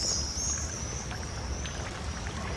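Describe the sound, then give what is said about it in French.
Water from several fountains splashes in a steady, unbroken wash of hissing noise with a low rumble beneath and a thin high tone running through it. Nobody speaks. “J'aime le bruit blanc de l'eau.”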